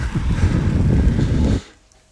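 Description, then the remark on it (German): Strong wind buffets the microphone in a dense, low roaring rush that stays steady and loud for over a second, then cuts off abruptly into near silence; recorded at the Timmelsjoch mountain pass, where it was suddenly very windy. “Aber was ich da krass finde, man hört da den Wind.”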